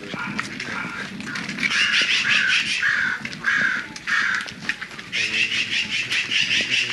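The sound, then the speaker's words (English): Crows caw repeatedly in harsh, rasping bursts, several calls overlapping in a loud, steady chorus with brief gaps between, set against faint outdoor background noise. “There is crow.”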